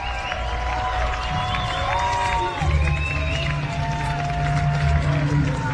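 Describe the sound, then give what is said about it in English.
A baseball home crowd cheers steadily after Rolando Espinosa of the Hooks lines a one-out double toward the left field corner in the fourth inning, a dense roar threaded with scattered shouts, whoops and a few whistles, swelling slightly louder partway through and holding for several seconds. “Home crowd shows appreciation as Espinosa rifle ones toward the left field corner there, a long way from McCusker to run, not able to get there.”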